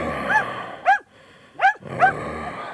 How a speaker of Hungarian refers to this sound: A kutyájuk azonban csúnya és rossz természetű, mint is akár összvérei. Nyughass, kicsikém.